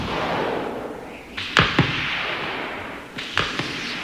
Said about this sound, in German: Dann auch dieses, dass du dieses Knallen dann noch mit so einem totalen Hall hörst, durch die Berge und so, ne?